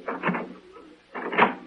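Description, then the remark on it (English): A door is opened with two short, rattling bursts of scraping and creaking noise, separated by a brief quiet pause, at moderate loudness with no talking. “Open up.”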